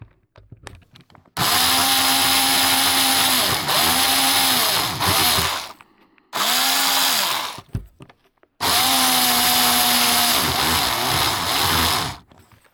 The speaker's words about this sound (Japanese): では、ドリルの種類を変えて、また再開します。